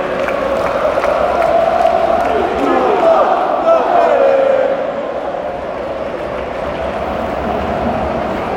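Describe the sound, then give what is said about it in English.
A large football stadium crowd roars and cheers after a Victor Jokeres goal, in a dense, sustained wash of noise, loudest for the first few seconds before easing into a steady, slightly quieter din. “The crowd are happy.”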